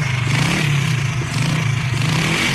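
A motorbike engine revs steadily, a loud, continuous throaty rumble with rattling mechanical clatter layered over it.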